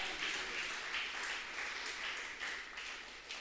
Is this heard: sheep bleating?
no